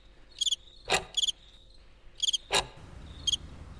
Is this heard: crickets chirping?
yes